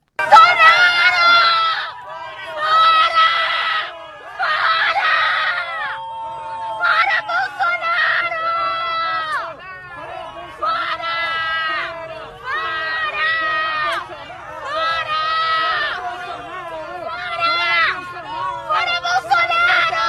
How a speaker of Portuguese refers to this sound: Mas a maioria, presidente, a grande maioria protestou e protestou bastante, protestou com força, como mostra esse vídeo aqui que a gente separou para vocês.